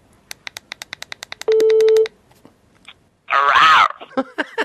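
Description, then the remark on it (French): A quick run of phone keypad beeps and a steady tone as a number is called, then a mobile phone rings with its ringtone: one loud, raspy big-cat yowl lasting under a second, followed by short vocal bursts. “un miaulement de fauve ? Ça, c'est vrai.”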